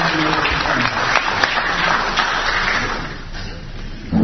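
An audience breaks into steady applause, a dense wash of many hands clapping at once that holds loud for several seconds before thinning slightly toward the end.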